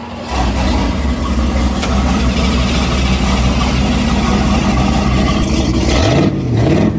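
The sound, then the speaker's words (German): A last-generation Riva Aquarama motorboat's twin V8 engines rumble steadily and loudly, a deep continuous drone with a brief rise in pitch near the end as the throttle shifts. “Das war eine Riva Aquarama der letzten Generation mit zwei V8-Motoren.”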